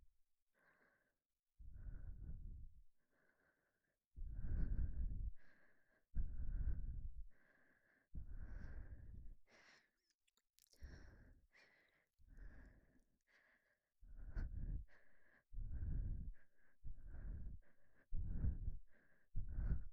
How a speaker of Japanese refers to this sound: ほら、私の吐息感じてリラックスしてください。